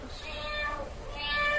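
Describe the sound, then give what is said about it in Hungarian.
Two drawn-out, high-pitched cat meows, the first rising and falling, the second following after a brief dip, fairly loud over a low steady background hum, played as a clip in an animal-sound guessing game. “Csicsa! Jó, akkor te ezt most megkapod.”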